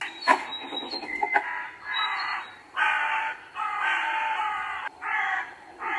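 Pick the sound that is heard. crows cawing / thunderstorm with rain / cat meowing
crows cawing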